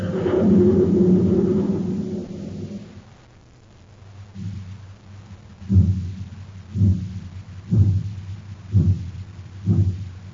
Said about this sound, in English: Say, do you hear that, Space Patrollers? That's the Terra City Express train. It's trying to get up speed on ordinary fuel. Not very speedy, was it?